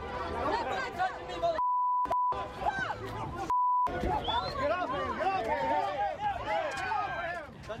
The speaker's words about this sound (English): This, things are escalating, I can tell by the beeping.